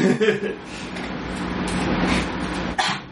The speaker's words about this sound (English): Bless you. Yeah, no. That was a cough.